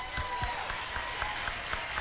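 An audience applauds steadily, a dense wash of many hands clapping at once with a few sharper claps and thumps standing out at a roughly regular beat.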